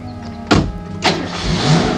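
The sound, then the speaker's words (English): A car engine rumbles, broken by two sharp thuds about half a second apart, then the engine noise swells steadily as Jim drives away while Mrs. Magruder opens the door to Sean's truck. No one speaks. “Magruder opens the door to Sean's truck as Jim drives away.”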